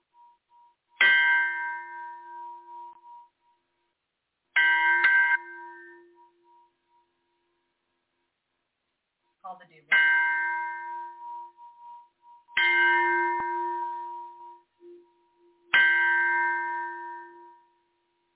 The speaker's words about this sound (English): what I'm going to do is I'm going to clear energy real quick. I use a Tibetan bell. So, all right. Look at that. This is a big bell.